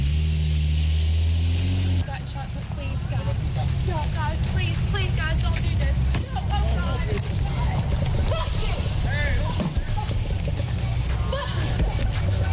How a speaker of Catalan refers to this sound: ella bàsicament està al cotxe en una benzinera, hi ha molts periodistes doncs, assetjant-la i buscant la notícia, es posa nerviosa, demana que marxin, no marxen, continuen fent fotos